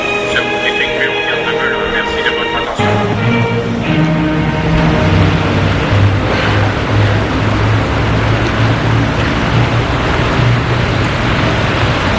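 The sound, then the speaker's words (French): A steady roar of city traffic in Paris, a dense continuous rumble of engines and road noise that stays loud throughout, following a short tonal, chime-like passage in the first few seconds. “Paris, sa circulation”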